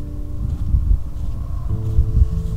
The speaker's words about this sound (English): It is windy out here.